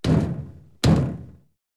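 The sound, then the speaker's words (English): Two firm knocks on the wooden door of the giant's house, spaced almost a second apart, each a solid thud with a short fading ring, loud with no voices. “Jack knocks on the door.”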